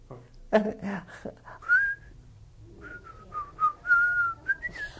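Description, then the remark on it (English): Someone whistles a short, wavering tune, the clear tone sliding between a few notes in brief phrases, with some soft vocal sounds at the start. “Can you whistle? Yes.”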